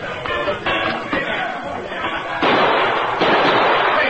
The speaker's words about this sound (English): As we go through the door, fire a couple of shots into the ceiling just as a warning.